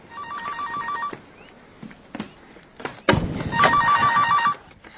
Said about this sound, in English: The phone.